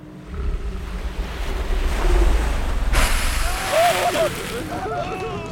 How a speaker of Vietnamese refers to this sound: Cũng có truyền thuyết kể rằng, các thành viên trong ủy ban đã có lần thử mở hầm B, và họ khiếp hãi khi nghe thứ âm thanh sóng biển từ bên trong đó tỏa ra.